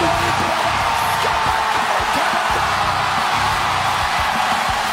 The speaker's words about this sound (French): Écoutez la foule au Minnesota!